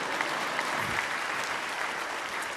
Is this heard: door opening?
no